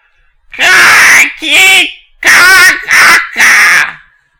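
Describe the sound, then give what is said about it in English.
A bird lets out a set of loud, harsh, commanding squawks: five raspy bursts, two then three, each rough and strained, with no talking. “Suddenly, the bird points at seemingly nothing and lets out a commanding sounding set of squawks.”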